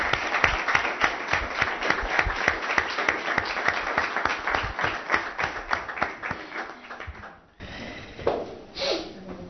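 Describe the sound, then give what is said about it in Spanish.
A crowd at the Goreña town council in Extremadura, Spain, applauds a newly sworn-in councillor with dense, steady clapping for about seven seconds. The applause then fades out and a few brief sounds follow in near quiet. “Un aplauso para la nueva concejal.”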